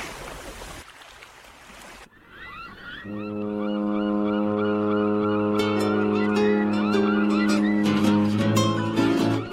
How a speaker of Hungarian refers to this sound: Már közeledik a hajó, halljátok ti is a tenger zúgását s a hajó kürtjét.